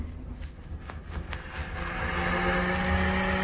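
A car speeds along some 30 miles out of London on its way to an airport, with a steady roar of engine and road noise, the engine note rising and growing slightly louder in the second half, with a few faint clicks early on.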